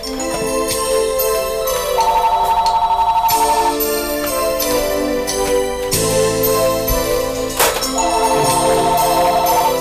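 A melodic electronic phone ringtone plays loudly and continuously, its bright tonal phrases repeating in steady cycles with no one speaking.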